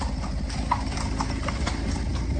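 Horse hooves clip-clop steadily on a hard street in Seville, on the Avenida de la Constitución, heading to the Torre del Oro. A regular rhythm of sharp clacks sounds over a continuous low rumble of traffic and city noise.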